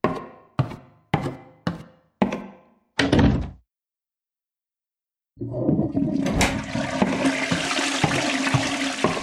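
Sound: toilet flushing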